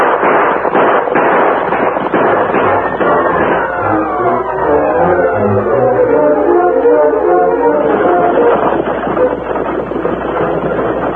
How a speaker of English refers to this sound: Inside the stagecoach, Ebenezer was startled when the gunfire was heard.